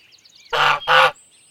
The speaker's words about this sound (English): Ooh, a grumpy goose.